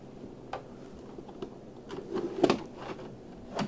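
A door is pushed closed, with a few light clicks and rattles building to a firm latch near the middle, then a final soft click. Fairly quiet, with no talking.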